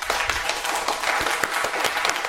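A crowd applauds steadily, many hands clapping in a dense, continuous patter of sharp claps at a fairly loud, even level throughout.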